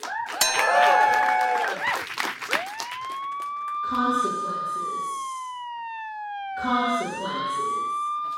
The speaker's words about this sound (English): Consequences. Is that the consequences siren? Is someone facing consequences? I didn't even realize that alarm still worked. It's been so long since we've heard it.